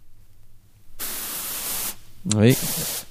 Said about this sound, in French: on chauffe la vapeur là.